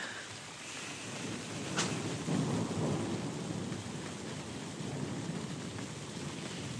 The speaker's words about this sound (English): And I'm one of those people who loves thunder and lightning. I love the drama. I love the way it kind of takes over. When it's thundering, you can't do anything else. You have to engage with the thunder.